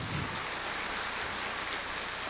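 A steady wash of applause: dense, crackling clapping from many hands at an even level for about two seconds, with no voices over it.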